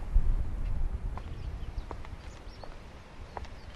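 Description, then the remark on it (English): Horse hooves clip-clop at a slow, steady walk over a low rumble like cart wheels rolling, with faint birdsong chirping in the background: a horse and cart, as used by lighthouse keepers to pick up their food from the shallows on the beach. “The keepers would get a horse and cart and try and go and pick up their food for the next 6 months out of the shallows.”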